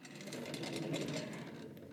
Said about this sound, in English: I'm just gonna wheel my desk chair over.